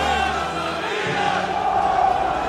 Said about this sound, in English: It's another AC Milan soccer victory in the books. Tens of thousands of fans pour out of the stadium and into the streets.